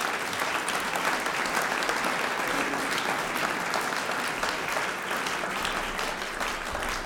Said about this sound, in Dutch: Klappen maar voor VU Kamerkoor en Cello Octet.